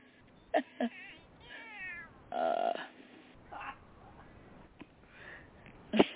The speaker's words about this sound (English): There you go. It's a good kitty cat.